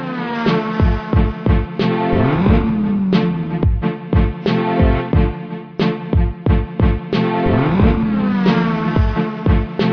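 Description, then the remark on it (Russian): A car engine revs hard twice at full throttle as the driver floors the gas, its pitch sweeping upward, woven into a loud music beat with pounding drums and a steady synth backing. No one speaks. “Двигатель нашего авто все на борту, громче реактивных самолетов, и тишину нарушает рев мотора, который раз нажимает до упора, водила газ.”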